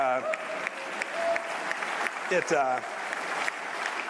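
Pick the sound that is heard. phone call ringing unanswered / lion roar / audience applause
audience applause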